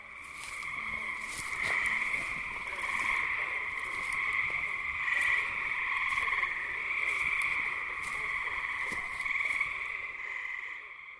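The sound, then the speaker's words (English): A dense chorus of frogs calls continuously on an early summer evening in a neighborhood in Greene County, New York, many overlapping voices forming a steady, buzzing trill that fills the whole stretch, with no pauses and no talking. “But while spring and early summer evenings were full of the sound of frogs, the calls that we hear as summer draws to a close are those of insects.”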